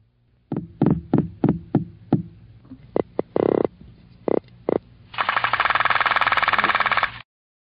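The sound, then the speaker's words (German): Low, knocking calls of drum fish (croakers): a run of separate thumping pulses, then several quicker bursts, ending in a dense continuous rattling drone as many males drum together in chorus at their annual spawning gathering. No voices. “Wenn sich die Männchen zum alljährlichen Ableichen versammeln, trommeln sie im Chor um die Gunst der Weibchen.”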